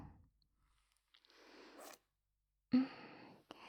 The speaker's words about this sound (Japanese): なんかこうやって男の子の制服のチャックを下ろすのちょっといけない感じしますね。ドキドキします。